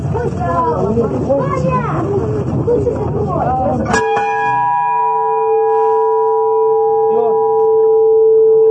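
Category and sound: signal or alarm, ship's bell ringing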